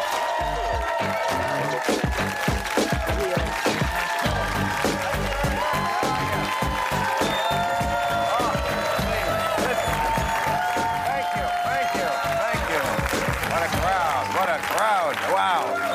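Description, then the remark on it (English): A large studio audience at a Real Time monologue on Cinco de Mayo applauds and cheers steadily for the full stretch. Dense clapping is mixed with whoops and shouts that stay loud throughout, with occasional voices rising above the noise. “It's a Cinco de Mayo crowd, isn't it?”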